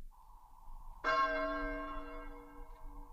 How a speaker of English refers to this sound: The passing bell is heard.